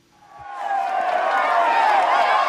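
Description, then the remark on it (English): A tightly packed roadside crowd at the Tour de France cheers passing cyclists, a dense roar of many voices that swells up within the first half-second and holds loud and steady, whoops and shouts blending into one continuous wall of sound. “Tightly packed crowds lining the roads to cheer and run alongside the riders.”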